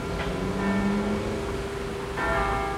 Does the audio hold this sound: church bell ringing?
yes